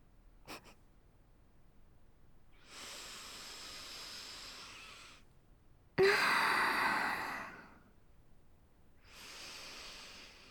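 A series of long, airy breaths drawn in through the nose, deep sniffing of a person's scent, with a sharper, louder inhale in the middle; no talking, just soft breathy hissing between pauses.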